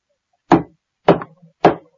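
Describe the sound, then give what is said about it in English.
A man knocks loudly on a door three times, heavy knocks evenly spaced about half a second apart, sharp with a short thud after each, no voices. “The second man knocked loudly on the door.”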